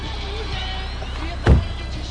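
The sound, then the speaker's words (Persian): A car with a suspected flat tire rumbles steadily from inside the cabin, then brakes with one sudden, heavy low jolt near the middle before the engine noise settles back to its even drone. “میدونی منم حساس، منم لطیف، حالا ترمز.”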